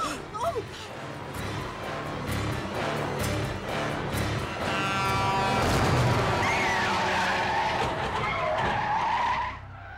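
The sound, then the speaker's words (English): In a Chucky film scene, an oncoming semi-truck skids hard with a loud, sustained screech of tires and rumbling engine noise as a car backs into its path, lasting most of the ten seconds before cutting off abruptly. “Startled by what he has seen, David unknowingly backs into the path of an oncoming semi-truck.”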